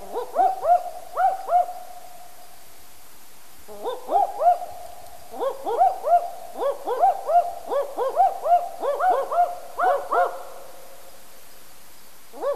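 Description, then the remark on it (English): A pair of owls, disturbed in their territory, call back and forth in an excited duet, rapid bursts of yelping hoots, the male's voice lower and the female's higher and quicker, overlapping in rhythmic runs, with a brief pause partway through. “The second clip is of a pair of owls giving their characteristic excited duetting calls when they're disturbed in their territory.”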